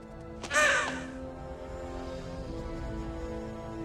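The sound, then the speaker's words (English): A single harsh, loud raven caw rings out near the start as a raven lands on a tree branch, then fades into a low, steady musical drone that continues to the end. “A raven lands on a tree branch.”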